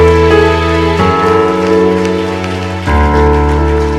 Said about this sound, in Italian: Io vorrei che facessimo un applauso. Un applauso per te.